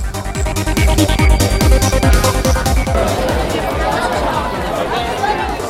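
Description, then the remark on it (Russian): Dense crowd chatter and babble fill a busy metro station, with a steady loud roar underneath and repeated low thumping pulses in the first half, giving way to a more diffuse, clattering din. “В метро было очень шумно и полно людей.”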